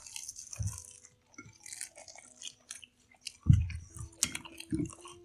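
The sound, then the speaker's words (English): Wet chewing of spicy chicken wings with irregular crunchy bites and smacking, loud bursts of mastication scattered over several seconds with no talking. “You know, it's got a little bit more heat than I thought.”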